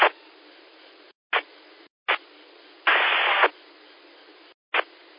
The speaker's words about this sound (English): I think I heard someone trying to get back, but I heard nothing but static.